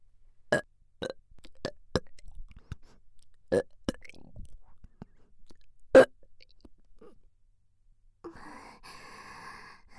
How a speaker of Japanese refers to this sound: とびっきり下品で臭いゲップ出ちゃった。耳元でのゲップだったけど、ちゃんと匂い感じれたかな？